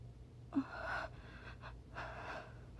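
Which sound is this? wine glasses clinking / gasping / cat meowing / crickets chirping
gasping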